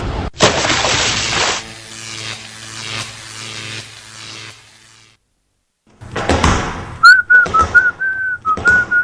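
person whistling a tune

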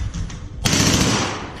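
gunfire

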